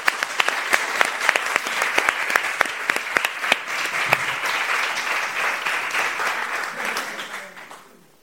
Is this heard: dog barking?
no